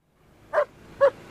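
A dog barks twice, two short, sharp woofs about half a second apart, clear over a quiet, faintly noisy background with no one speaking.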